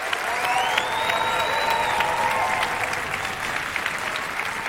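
Loud, sustained 10-point applause from a large audience as a guest is called onto the stage, a dense wash of clapping with a few whistles rising and gliding above it.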